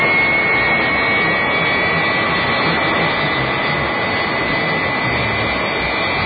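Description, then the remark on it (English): A loud, steady jet engine roar fills the whole stretch, a dense rushing whine of a jet airplane taking off, with no voices over it. “Here comes the takeoff.”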